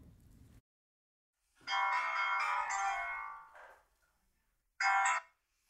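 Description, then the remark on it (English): A phone rings on the caller's end of an outgoing call to a found adoptee: one long, steady ring, a pause, then a shorter second ring. Fairly loud and clear, with no voices. “But since Militia knew her, they picked up the phone.”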